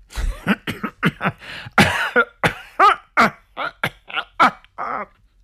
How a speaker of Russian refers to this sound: Больше сдерживаться не было сил. Кашель полковника Марча был столь долгим и вымученным, что даже слепому было бы понятно, что что-то не так.